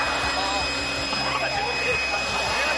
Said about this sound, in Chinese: 如法炮制，强力吹风机登场。好家伙，还是吹的热风